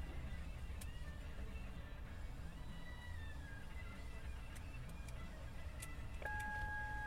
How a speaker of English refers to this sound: My sister lives in a gated community, so I've got to press the code in to get into the gate, but I gotta maneuver my big truck up to the thing.